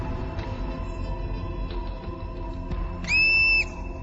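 Over a steady outdoor rumble, a marmot on guard gives its alarm whistle once to warn the colony of a hunting young bald eagle, loud and piercing: a short, shrill note lasting about half a second near the end.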